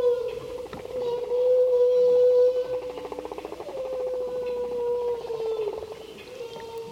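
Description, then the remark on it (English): Underwater whale song and social calls: long, sustained tonal moans with pulsing, buzzing trills and rising squeals layered together, fairly strong and continuous over a hissy, deep-water background. “these sounds are a combination of social vocalizations and what acoustical experts call whale song.”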